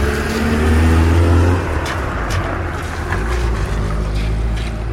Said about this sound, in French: Voilà, il y a un camion poubelle qui a décidé voilà. d'arriver.